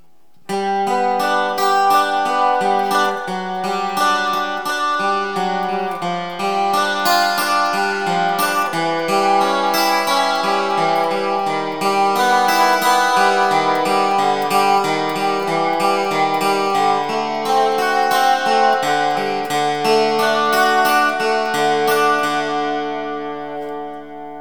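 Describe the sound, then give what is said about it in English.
A steady run of single instrument notes, one after another, played with the reverb and the chorus mix control turned all the way up, bathed in shimmering chorus and washy reverb so each tone rings into the next, ending with a soft decaying tail. No talking. “Currently I have the reverb and the mix control turned all the way up on the chorus setting.”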